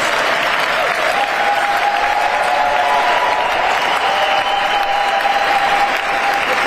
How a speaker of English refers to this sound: You know, I didn't notice until we were just watching this video right now, but the room stood up and applauded in that moment.